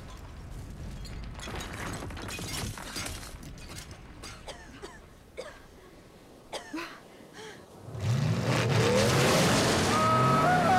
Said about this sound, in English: The tower's blown to bits. The angels land in a heap down on some grass. Rubble showers down on top of them.